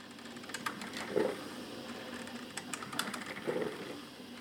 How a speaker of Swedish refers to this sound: Och när kaffet puttrat klart i kaffekokaren så är det dags att provsmaka den nu kylskåpskalla chokladmosen.